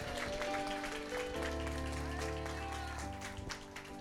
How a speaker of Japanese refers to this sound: イエス様に大きな拍手を送りましょう。